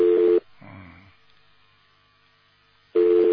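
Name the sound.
telephone ringback tone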